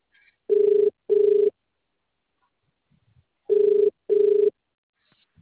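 A telephone rings in the classic double-burst pattern, two short rings, a pause of about two seconds, then two more, loud and clear with no one talking.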